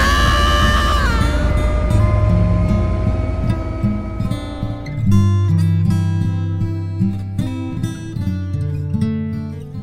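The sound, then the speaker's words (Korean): A train pulls away from a platform with a loud, steady low rumble and a sustained mechanical whine that drops in pitch near the start, rolling on continuously with no voices. “어, 지금 기차 출발하는데.”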